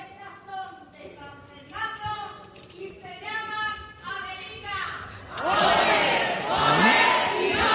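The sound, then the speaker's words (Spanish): A crowd chants in unison a popular cry adapted for an island carnival comparsa closing today's performance, voices rising and falling in short repeated phrases, then breaks into loud, sustained cheering and shouting for the last few seconds. “Adaptación de ese grito popular personalizado a esta comparsa isleña a la que le toca, bueno, pues cerrar hoy función.”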